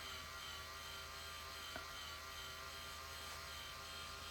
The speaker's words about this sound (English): I just realized why this sound was bothering me so much coming from this vibrator. It's because it sounds like exactly like the electric toothbrush I have, and that just feels, that seems wrong.